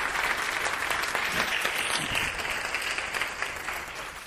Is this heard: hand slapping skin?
no